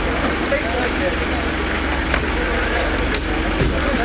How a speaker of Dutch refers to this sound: Nu worden de auto's gestart. En dat betekent dat ze er vandoor gaan.